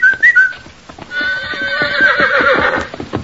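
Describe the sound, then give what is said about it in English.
A boy's short two-note whistle rings out, followed by the horse White Star trotting to a barrier in a hidden valley, its hooves clip-clopping steadily while it gives a long, loud whinny. “White Star was strong again and trotted to the barrier when he heard the boy's whistle.”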